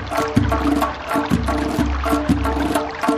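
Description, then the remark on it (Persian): Running water rushes steadily, with a few soft splashes at regular intervals as knotted bundles of sprouted greens are tossed into the clean flowing stream as a traditional custom. No one speaks. “توی این روز زیبا سنت داریم بچه ها، سبزه گره میزنیم، بعد از گره سبزه رو به آب پاک میدهیم.”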